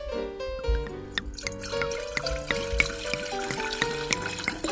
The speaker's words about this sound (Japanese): ではですね、いつものように乾杯したいと思いますのでお継ぎさせていただきます。